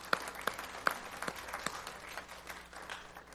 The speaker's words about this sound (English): And that deserves a round of applause as well.